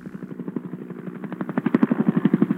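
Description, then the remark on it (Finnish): Helicopter rotors thump in a steady, fast rhythm, growing louder over a few seconds with a low engine drone underneath, no voices present, as helicopters circle dropping water on the flames of the Tamarack wildfire near the California–Nevada border, a fire started by lightning in early July. “Helikopterit kiertelevät pudottamassa vettä Tamarack-maastopalon roihuaviin liekkeihin Kalifornian ja Nevadan rajan tuntumassa.”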